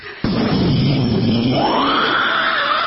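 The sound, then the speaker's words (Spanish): A person vocally imitates a loud thunderclap: a sudden sharp onset followed by a loud, sustained rumbling, growling roar, lasting nearly three seconds. “Si oye un fuerte trueno, haga un fuerte trueno, por favor.”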